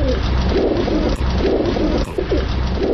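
pigeons cooing

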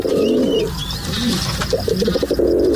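pigeons cooing

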